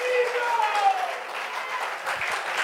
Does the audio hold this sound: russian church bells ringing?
no